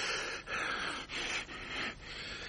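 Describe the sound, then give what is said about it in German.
A man pants heavily, out of breath from running and with a stitch in his side, holding a package in each hand, with rapid rhythmic gasps in and out, fairly loud, about five breaths in quick succession with no talking. “Er keucht, als er wieder aufrecht steht. Seitenstiche.”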